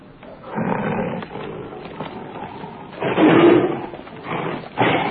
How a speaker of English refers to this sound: I believe that's a Bengal tiger, ladies and gentlemen.